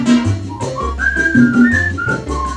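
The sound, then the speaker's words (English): A person whistles a melody in clear, sustained notes that glide between pitches, fairly loud over a steady musical accompaniment with a low bass line. “Whistle high and whistle low.”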